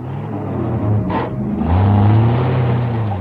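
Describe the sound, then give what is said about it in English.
A car engine rumbles, then revs up with a rising, strained roar as the vehicle pulls away, its steady drone continuing loud to the end. “We'll use your car. You drive, I'll guide.”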